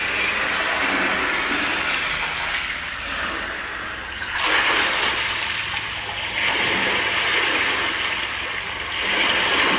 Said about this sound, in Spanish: Y ahora siente el sonido, la energía del mar dentro de ese espacio interno.